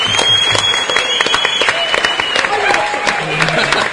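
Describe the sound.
Steady, dense applause from an audience for an award winner, loud and continuous for the whole stretch, with a few cheers and voices mixed into the clapping.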